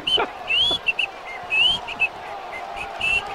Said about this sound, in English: Yeah, you don't know how to whistle.